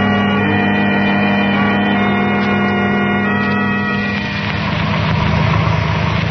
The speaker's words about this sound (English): The car with Herbert and the girl is just pulling over to the curb, Dr. Dahmer.